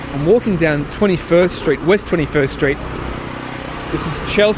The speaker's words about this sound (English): And that sound you can hear next to me now, that's a generator. And generators are lined up and down these streets. You can hear them everywhere.